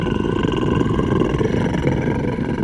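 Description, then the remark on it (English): A loud, deep animal growl rumbles continuously for nearly three seconds, rough and steady in strength, with no voices over it. “Then we heard a louder growl.”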